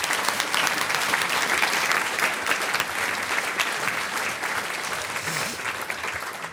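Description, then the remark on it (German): An audience applauds steadily for a choir and its choir leader, a dense, sustained clatter of many hands clapping at an even loudness throughout, with no voices standing out. “Einen Applaus für Sie und für diesen Chor.”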